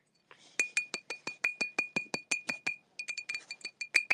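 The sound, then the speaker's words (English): A glass baby bottle with a nipple clinks rapidly as it is shaken, about twenty bright, ringing taps in a steady rhythm, a brief pause, then another quick run of clinks, fairly loud with no talking. “Can you hear the tippy tap of glass? So it's a glass bottle with a baby nipple.”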